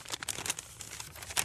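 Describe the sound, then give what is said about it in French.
A small slip of paper with a word on it is unfolded to pick a word, giving a quiet run of soft crinkles and crackles over about a second and a half, with no voices. “Eh bien, allez-y, choisissez un mot, je vous en prie.”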